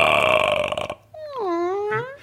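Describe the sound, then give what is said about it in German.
A door swings open as someone arrives for an audition: a dense scraping rattle gives way to a long, wavering creak of the hinge that slides down and back up in pitch, fairly loud, with no voices. “Die Tür geht auf.”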